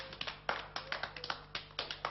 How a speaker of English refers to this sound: Noises. Clapping.